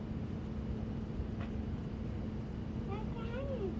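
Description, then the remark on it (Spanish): A voice imitates a small car engine being started and driven out of a garage, a steady buzzing rumble that holds for several seconds, ending with a few wavering, higher vocal sounds. “El señor pequeño saca el auto pequeño del garaje. El auto hace...”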